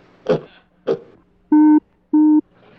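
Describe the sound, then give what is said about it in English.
Two short, rough bursts give way to a pair of loud, steady electronic beeps from a moon rock, each a flat buzzy tone lasting about a quarter second, separated by a brief gap. “What strange it would just beep at Arnold.”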